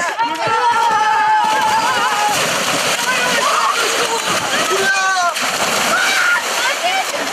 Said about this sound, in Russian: В перерывах между играми и тренировками – купание в реке. Один из самых любимых детьми моментов.